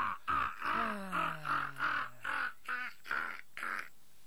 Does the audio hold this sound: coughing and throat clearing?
no